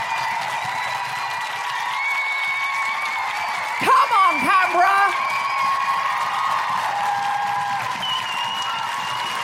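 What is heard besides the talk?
audience clapping and cheering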